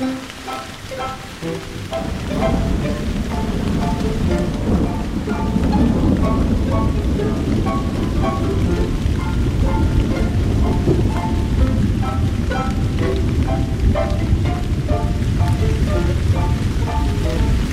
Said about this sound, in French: Et c'était un concert hyper spécial, parce qu'au milieu, il y a eu un énorme orage avec des éclairs et tout.